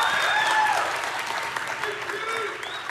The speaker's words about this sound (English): Someone clap.